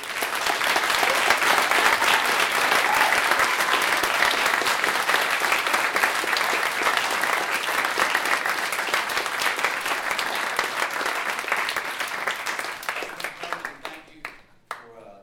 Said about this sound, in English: I know it's not typical to applause, give applause after a sermon, but guys,